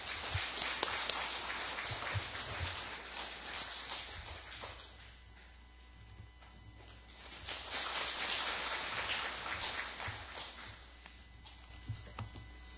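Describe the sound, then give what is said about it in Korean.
An audience claps steadily for a teacher coming out, in a dense, crackling wash of applause that eases off briefly midway, then swells again before continuing to the end. “선생님 나오실 때 박수를 안녕히 주시면 감사하겠습니다.”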